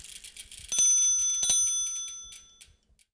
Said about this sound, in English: Now, speaking of Hub and Spoke, let's hear that cute little bike bell and get going.